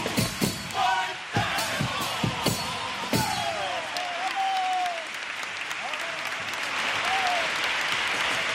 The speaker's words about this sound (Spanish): Sigue sonando y para que siga viva la esperanza va nuestro aplauso por todos esos guerreros.